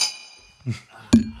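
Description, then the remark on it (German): Drinking glasses clink together in a toast, a bright ringing tone fading at first, followed by two short knocks close to the microphone, with no talking. “Direkt nochmal dem Mikrofon zugeprostet.”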